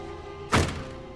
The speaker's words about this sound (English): Aaron nods at the boot of the car and holds the lid up for Mike to see inside where Adams lies in the bloodstained polythene. Mike winces and slams the lid shut.